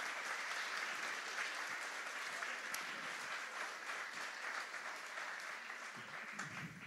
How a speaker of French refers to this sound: Bien sûr, comme tout bon évangélique, on dit toujours, on applaudit le Seigneur, et puis pas l'homme, hein, c'est Dieu qui inspire.